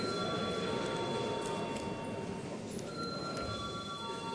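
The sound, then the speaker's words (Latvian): A voting bell rings continuously in the Latvian Saeima, called before deputies vote on a draft decision, a harsh, steady metallic ringing with sustained high overtones and no pauses, heard alone without any speech. “Lūdzu zvanu.”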